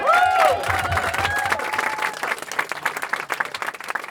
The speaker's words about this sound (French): Un tonnerre d'applaudissements